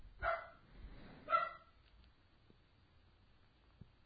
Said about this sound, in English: I'm sorry, my dog's barking.